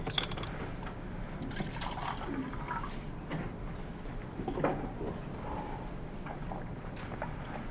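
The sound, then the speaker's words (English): Liquid sounds of water being poured or sipped by a speaker pausing mid-talk, a soft continuous sloshing and trickling over a low background rumble, with no talking. “oh, I have water here, I'm sorry.”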